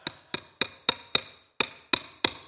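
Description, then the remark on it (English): A hammer drives nails into wood with eight sharp, ringing strikes at a steady quick pace, five blows, a brief pause, then three more, loud with no talking. “I brought more nails.”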